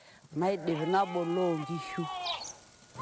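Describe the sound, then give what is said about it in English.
A sheep from a herder's flock lets out one long, quavering bleat. The call wavers for about two seconds, then rises and thins out before fading into quiet background noise. “I then check on the sheep's health and I tend to the sickly ones.”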